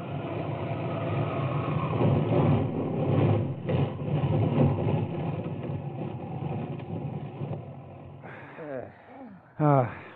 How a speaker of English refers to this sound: Finally, the motor sputters for the last time, and you guide the plane almost noiselessly to a landing on the desert floor.